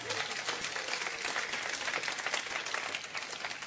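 An audience applauds steadily, a dense, even patter of many hands clapping at once, sustained for several seconds with no voices standing out.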